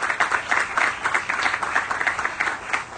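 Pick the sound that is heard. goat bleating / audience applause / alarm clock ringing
audience applause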